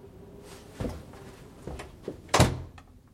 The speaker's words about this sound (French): J'ai refermé la porte dans un geste sec.